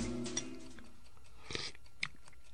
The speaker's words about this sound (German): Er schlürfte gerade eine Suppe, als wir unangemeldet die Wohnung betraten.